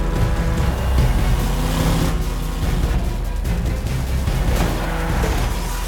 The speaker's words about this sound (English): One of the Hummers smashes into some debris, flips, and rolls over.